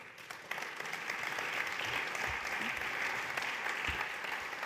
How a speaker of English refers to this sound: Wonderful last words, and I think that's worth a big applause for our two chairs.